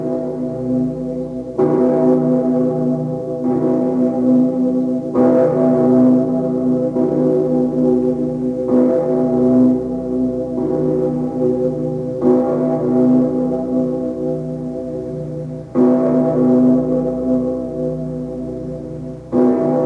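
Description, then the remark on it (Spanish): A huge, deep bronze bell of Cologne Cathedral in Germany, cast from the bronze of cannons, tolls slowly and repeatedly, each heavy strike blooming into a long, humming resonance that overlaps the next, loud with no voices. “Desde Alemania, la Catedral de Colonia, con la que llaman Pedro el Recio, fundido con bronce de cañones”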